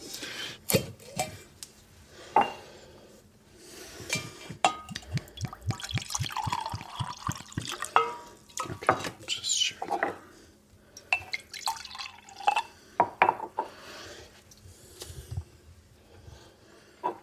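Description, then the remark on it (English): Coffee mead is poured into a cup, with a steady trickle broken by drips and splashes and a few knocks of the vessel, lasting over fifteen seconds with no voices. “Well, let's take out the cup. We'll try the coffee mead.”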